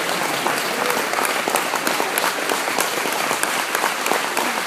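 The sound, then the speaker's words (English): An audience claps hands together in a dense, steady wash of applause, many overlapping claps forming a loud, continuous crackle with no pauses and no talking. “See, every time you clap your hands lately, that's just telling me, I got the Holy Ghost, devil.”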